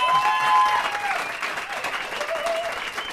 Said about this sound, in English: Oh, well, actually, first of all, how about a round of applause for our panel?